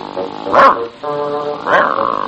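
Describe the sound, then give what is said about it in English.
A dog named Wolf growls in a steady, low rumble that swells into two louder snarling bursts, one early and one near the end, with no other sounds. “Wolf dropped his sandwich and began to growl.”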